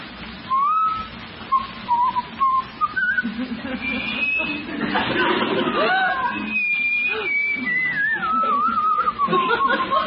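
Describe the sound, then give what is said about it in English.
A seated man whistles a wandering tune, the thin clear pitch sliding up and down in short phrases, with a low murmur of background voices beneath it. “You just gonna sit there and whistle all night?”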